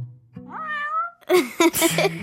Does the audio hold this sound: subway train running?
no